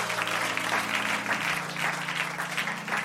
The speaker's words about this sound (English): That he is the Lord. Amen. A round of applause for our Lord Jesus Christ.